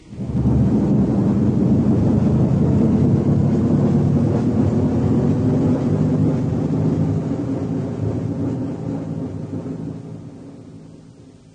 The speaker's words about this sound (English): Right, the hull doors are open. 5 seconds to main engine burn, from now. Airlock doors latched, four, landing skid three, clamps released. 2, 1.